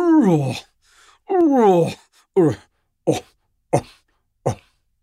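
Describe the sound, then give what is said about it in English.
Lions off in the open plain beyond the trees give a deep, huffing cough call: two long moaning groans followed by four shorter, punchy grunts in a slowing series, fairly loud, with no voices or other sounds. “And now, off somewhere in the open plain beyond the trees, now at last the lions begin. A deep, huffing cough.”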